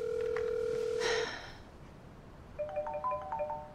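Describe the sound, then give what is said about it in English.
A steady electronic tone cuts off, and after a short pause a misplaced mobile phone, called from another phone to find it, starts ringing: a bright, repeating melodic ringtone of quick beeping notes, moderately quiet and slightly muffled. “Well, do you want me to call it? Oh, honey, now how is that going to help? I don't have it. Well, it would ring.”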